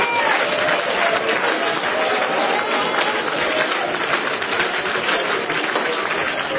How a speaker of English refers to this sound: Are you glad you're in the house of the Lord tonight? Somebody praise him. Somebody clap your hands. Somebody glorify God.